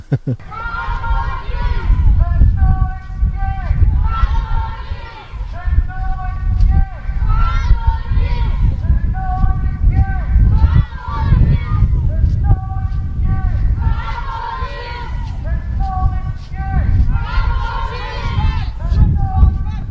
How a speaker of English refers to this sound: coming to you today from the Rally Against Animal Cruelty in good old Dublin. And we're just starting to move now.